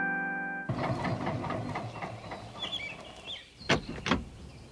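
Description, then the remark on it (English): An old car engine starts up and chugs along down a road in a steady, rattling rhythm, then two sharp, loud bangs ring out near the end. A brief tonal hum comes just before the engine. “The next day, they got in their old car and headed off down the road to do some calling.”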